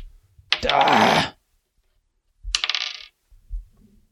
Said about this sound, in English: And after the cow chip is used, all other players roll a die.